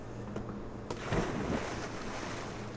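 Steady rushing river water with a sharp knock, then a louder splashing surge as a diver in diving gear, armed with a hacksaw, plunges into the river, and a low motor hum droning underneath throughout.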